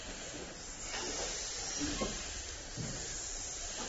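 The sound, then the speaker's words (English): A voice imitates a snake's hiss with a steady, breathy sssss sound that holds for several seconds, fairly loud, with faint background noise, practising the French S sound. “Good snake impersonation.”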